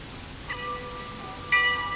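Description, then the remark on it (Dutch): A doorbell at a monastery door, pressed by hand, rings with two chiming tones about a second apart, the second louder, each ringing on briefly over a quiet background. “Ik liep er naartoe, drukte op de bel en na een ogenblik werd de deur geopend.”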